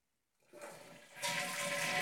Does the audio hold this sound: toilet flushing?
yes